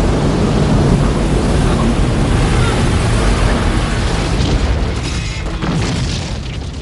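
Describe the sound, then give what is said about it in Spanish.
The ship SS Venture crashing and breaking apart at a port: a sustained, loud, rumbling roar with heavy low booms and crunching debris, thinning slightly toward the end. “Ese barco que se destroza.”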